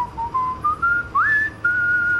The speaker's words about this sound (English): You were just whistling it.